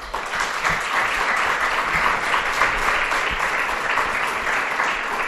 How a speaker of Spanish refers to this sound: Aquí nos recibe hoy parte de este gran pueblo de la provincia de Palencia, que es Villada, y queríamos daros un aplauso de parte de todos los que hacemos la cadena SER.